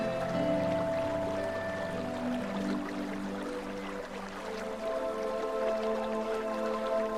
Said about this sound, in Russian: Поскольку этот поток, кажется, спускается с гор, давайте пройдемся и найдем его источник.